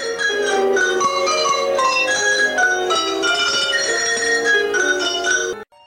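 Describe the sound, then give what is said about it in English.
Many cowbells on an 8-foot-long table are rung as music by a musician moving from one end to the other, in a steady melodic pattern, bright overlapping metallic tones sounding continuously and fairly loudly before stopping abruptly near the end, with no voices. “Ringing cowbells is hard work.”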